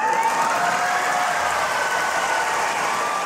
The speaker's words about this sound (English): Oh, Kamala, coming with the fire. You hear the crowd? Yeah, happy they were.